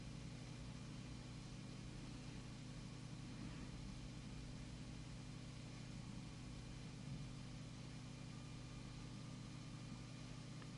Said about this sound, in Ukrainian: Гудуть машини по шляхах.